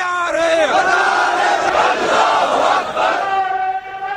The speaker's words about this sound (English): This is some sound. June 2011, supporters of the Islamist Party in Pakistan assembling in Karachi to protest American drone strikes.